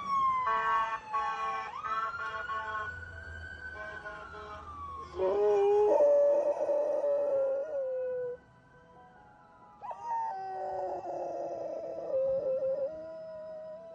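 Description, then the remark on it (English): A dog named Moomin howls loudly in long, wavering cries, joining a wailing ambulance siren that rises and falls. There is no talking. “He heard an ambulance and decided to clock in.”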